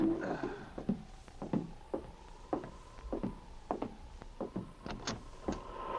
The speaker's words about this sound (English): But one night as he sat alone in his cabin on Hunker Creek, he heard an ominous knocking at the door.